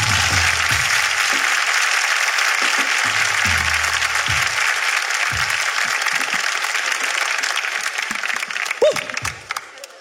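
Sustained applause from the studio audience of the show Tengo Algo Que Decirte fills the whole stretch, a dense, steady wash of many hands clapping that stays loud before easing slightly near the end.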